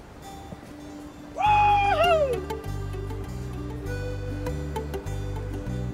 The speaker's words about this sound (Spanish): ¿y qué te parece si escuchamos un audio de gaviotas